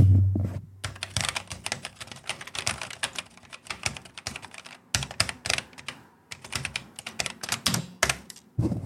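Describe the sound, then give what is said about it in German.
Rapid, clattery typing on the keyboard of an old Schneider CPC home computer, with dense bursts of keystrokes broken by a few brief pauses and no one speaking. “So muss sich eine Tastatur anhören.”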